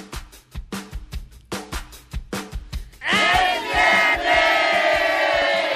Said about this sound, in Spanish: Y nos robamos a todos los invitados de Jordi Rosado a que vinieran a gritar.